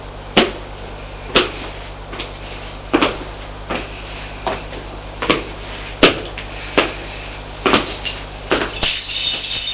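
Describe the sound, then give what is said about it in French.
An apartment door being unlocked and opened: a run of sharp clicks and metallic clinks at an irregular pace, busier toward the end, over a faint steady hum with no talking. “Ça lui paraît bizarre d'ouvrir la porte de son appartement.”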